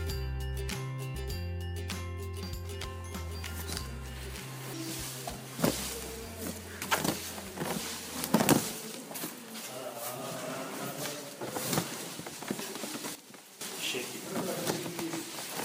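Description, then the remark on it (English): Dry tea leaves rustle and crackle as they are fluffed in a basket during the withering stage of tea processing, rotated and lightly tossed by hand, in irregular bursts of varying loudness, with a low steady tone underneath during the first half. “Do you hear that rustling? That's me, fluffing the tea leaves during the withering stage.”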